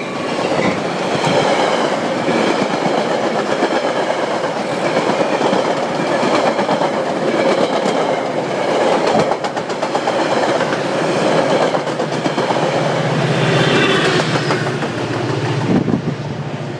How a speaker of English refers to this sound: Oh, look, here comes a train. Express train.